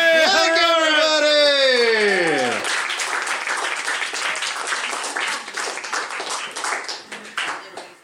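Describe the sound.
An audience breaks into sustained applause for a performing duo, a dense crackle of many hands clapping that follows a drawn-out sung voice sliding downward in pitch and keeps going steadily to the end.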